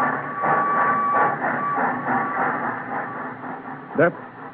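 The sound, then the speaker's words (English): A train carrying tobacco to the port of Balawan, Sumatra, rumbles steadily past with continuous mechanical clatter and a faint sustained whistle-like tone, ending with a brief squealing burst near the close. “That train carries tobacco to the port of Balawan.”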